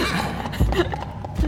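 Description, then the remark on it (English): A Foley effect of crystal hooves: two heavy, hollow hoof-like thuds about a second apart, set over a constant murky rumble, with no voices present. “So we've got the ringing sound of crystal hooves, and then just a really exhausted shuffle.”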